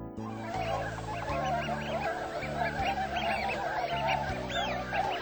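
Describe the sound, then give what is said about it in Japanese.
A dense chorus of migratory swans and ducks honking and calling continuously, many birds at once, loud, with no speech, over a steady low droning background; the birds have landed on a snowfield in Japan in February, snow lightly settled on their wings. “雪原の中に降り立った白鳥やカモなどの渡り鳥の羽にも雪がうっすらと積もり”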